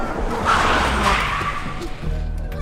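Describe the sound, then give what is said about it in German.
Tires screech loudly as a Millecento car skids for about two seconds, grinding to a halt, followed by the low rumble of its engine idling. “Da hielt ein Auto an.”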